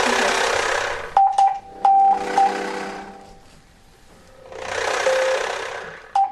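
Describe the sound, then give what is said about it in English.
Morse code tapped out spelling the word "feel" as a handful of steady, high-pitched beeps, some long and some short, with loud swells of rushing hiss rising and fading between them. “We're going to have a conversation. Morse conversation.”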